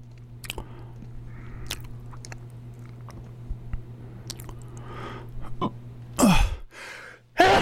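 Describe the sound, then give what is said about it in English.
Two abrupt, loud hiccups interrupt a baseball game recap, breaking a quiet stretch of faint clicks and low hum, the first with a short voiced squeak, the second arriving right at the end. “I'm just having nasty hiccups right now.”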